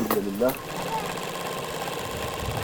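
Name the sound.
sewing machine running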